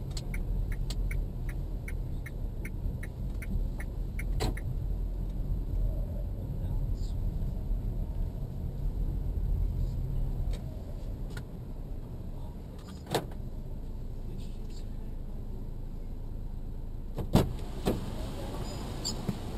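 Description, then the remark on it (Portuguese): From inside a parked old car used for an Uber ride, a car door that did not close properly is slammed shut a few times, sharp loud thuds spaced several seconds apart over a steady low interior rumble, with faint rapid ticking at the start. “Acho que não fechou a porta aí dentro de novo. Sabe como é que é? O carro é velho, tem que bater porta a porta.”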